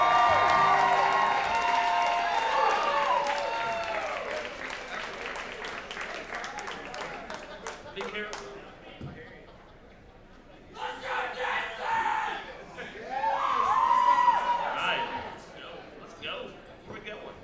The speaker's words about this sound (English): ladies and gentlemen, y'all give a big round of applause.